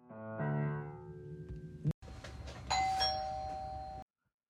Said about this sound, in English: Oh, I hear the bell. That must be Catfish Laguna, bringing us, some croissants.